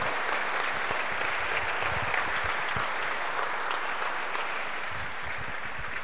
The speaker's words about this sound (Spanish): ¿Alguien puede aplaudir todavía o ya están muy regañados? ¡Aplaudan fuerte!